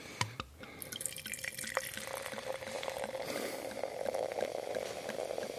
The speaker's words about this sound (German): Wenn man langsam genug laufen lässt, dann klingt es so, als würde man sich die ganze Flasche direkt ins Glas schütten. Auch nicht schlecht.